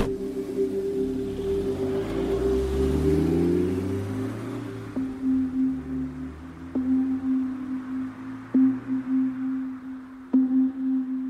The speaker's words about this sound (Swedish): Sen fort tillbaka till flyktbilen som kör iväg.